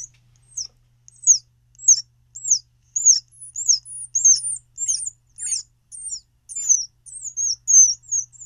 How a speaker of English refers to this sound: And just to give you some idea of what baby squirrels sound like. Yeah. And this is usually when they're hungry. They really get going. Here it is.